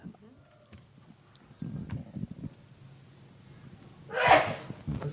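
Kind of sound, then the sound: human body sound, sneeze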